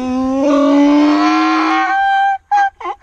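A donkey brays loudly: one long, drawn-out nasal call that rises slightly in pitch, then a brief pause and a few short, choppy gasping bursts. No one speaks.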